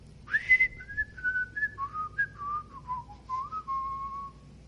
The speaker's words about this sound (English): I was going to whistle a song for you today. Yeah, maybe I will.